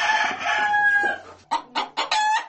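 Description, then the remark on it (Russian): In the farmyard of a village boarding school, a rooster crows loudly in a long, wavering call, followed by a rapid series of short, sharp clucks from chickens. “На хоздворе чистота. Коровники вычищены, свиньи и куры накормлены и напоены.”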